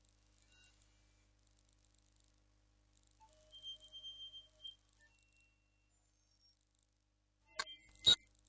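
Heavily denoised Japanese noise music fading in, mostly near-silent, broken by sparse high, thin chirps, a faint steady sine-like whine of sine-wave artifacts, and a short crackling burst toward the end.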